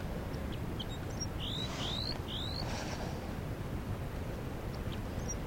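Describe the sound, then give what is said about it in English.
A newly captured female crossbill, held in the hand after being caught in a net, gives alarm calls: three quick, sharp, high chirps in a short burst, moderately faint over a steady low rumbling noise that continues after the calls stop. “That's the new captive giving alarm calls.”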